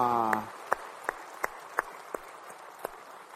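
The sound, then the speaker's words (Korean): An audience claps together in a steady, even rhythm, each sharp clap ringing over a low murmur of scattered hand noise, right after a voice trails off; applause of glory offered to the Lord during a church worship service after praise singing. “찬양도 열심히 하셨으니까 또 주님께 영광 올리는 그런 귀한 예배 되기를 소망하면서 우리 찬양받으실 주님께 영광의 박수 올리겠습니다.”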